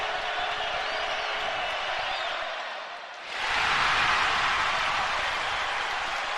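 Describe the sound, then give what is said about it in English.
A large indoor basketball arena crowd murmurs steadily during a BYU–Utah game, goes briefly quieter, then erupts into a loud, sustained roar of cheering and noise as a free throw ties the score at 72-72. “Well, the crowd just told you what happened.”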